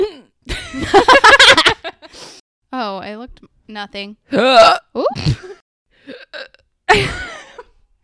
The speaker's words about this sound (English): I gotta burp.